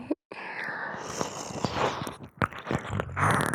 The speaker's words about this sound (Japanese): ただ耳をなめなめされているだけなんですから、そんなに緊張しなくても大丈夫です。勇者様はただ耳をなめられているだけ。